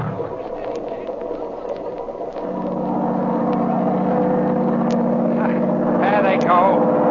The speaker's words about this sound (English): Shut off that engine!